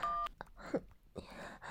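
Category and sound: signal or alarm, telephone keypad dialing tones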